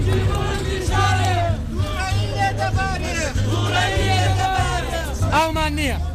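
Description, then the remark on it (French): A dense crowd of protesting students chanting and shouting together at a demonstration in Al-Abja, Iraqi Kurdistan, many overlapping voices rising in repeated surges, loud, with a low rumbling hum underneath. “Dans la foule des manifestants, … porte bien haut une pancarte réclamant l'entretien des résidences universitaires.”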